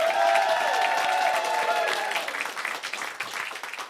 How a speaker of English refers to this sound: All of this stuff is coming soon, but they're here now, and so we're so happy to be here welcoming them. So give them a warm round of applause